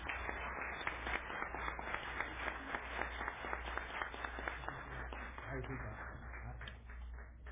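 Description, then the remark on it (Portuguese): An audience at a city council chamber applauds steadily for several seconds as an honoree is called up to receive an award, a dense, continuous clatter of many hands clapping at an even loudness, with a low steady hum underneath. “Carla, vem receber teu prêmio aqui. Uma salva de palmas.”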